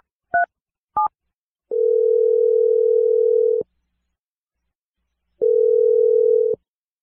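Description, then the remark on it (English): On the radio show Brooke and Jeffrey in the Morning, a listener's number is dialed live: two quick keypad beeps, then a steady ringback tone that buzzes for about two seconds, pauses, and rings again, clear with no voices. “Dialing your phone number right now.”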